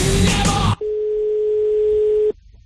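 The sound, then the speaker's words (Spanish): A single long, steady ringback tone of an outgoing phone call, the show's 'call to the leader', clear and fairly loud, lasting about a second and a half, preceded by a short burst of loud noisy sound. “Señor Gallego, hoy la llamada al líder.”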